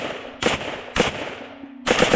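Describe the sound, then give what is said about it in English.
Rapid gunfire from a standard semi-automatic rifle fitted with a bump stock, which harnesses the recoil to make the finger hit the trigger: two loud, sharp single cracks a half-second apart, then a fast, continuous volley of shots at the end. No voices are present. “What the bump stock does, though, is take a standard semi-automatic rifle and harnesses the recoil, the kickback, to make your finger hit the trigger”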